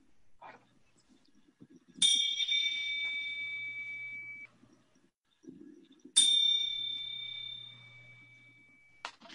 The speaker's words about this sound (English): Please join me in a time of silent meditation, which will start and end with the chime.